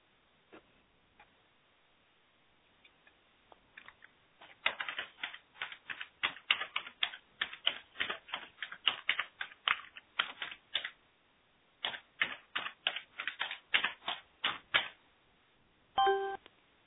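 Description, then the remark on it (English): Typing on a keyboard: a few scattered taps, then a rapid, steady run of clacking keystrokes with a brief pause, ending in a short tonal ding. No one speaks. “Seriously, hi everyone, typing.”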